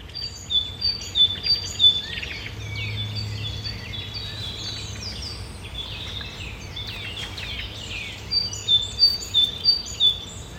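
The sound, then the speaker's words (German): Birdsong in a forest near Karlsruhe, with many small birds chirping and trilling at once, bright repeated calls overlapping throughout, busier at the start and end, over a faint low background rumble. “Und so klingt es in einem Wald in der Nähe von Karlsruhe, also ein bisschen näher als Australien.”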